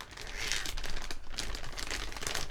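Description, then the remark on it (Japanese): A large Ziploc plastic zipper bag holding a silicone item crinkles and rustles steadily for a couple of seconds, a dense, crisp, bright rattle with irregular bursts, fairly quiet and with no voices. “シリコンできたでできたこいつをジップロックの大きい袋にしまってあるんです。”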